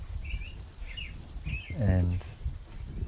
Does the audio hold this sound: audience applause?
no